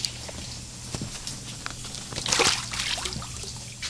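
Water sloshing and lightly splashing in a small pool as a thick-billed murre is put in to test its feathers' waterproofing, with intermittent drips and patters and a brief, brighter splash in the middle; no one speaks.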